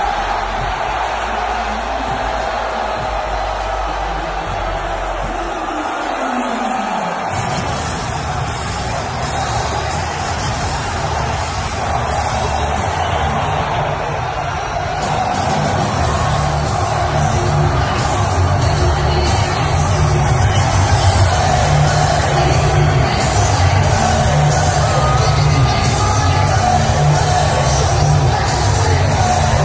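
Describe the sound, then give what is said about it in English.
A packed arena crowd at a UFC event in Miami roars and cheers without letup as President Trump walks in, loud and dense with scattered yells, while a steady low musical drone runs underneath from partway through. “Do you hear that crowd? That's a filled arena in Miami.”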